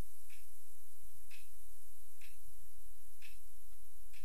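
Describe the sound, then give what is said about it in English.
A clock ticks away the seconds at seven o'clock in a dark room, steadily about once per second, with crisp, soft clicks over a low, quiet background hum. No one speaks. “I could hear the clock ticking away the seconds.”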